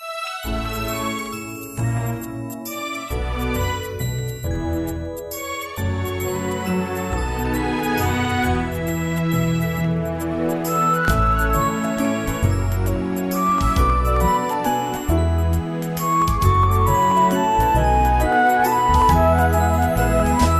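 An instrumental Christmas carol intro plays steadily for about twenty seconds, with bright tinkling chimes ringing over warm sustained chords and a soft low accompaniment, no voices.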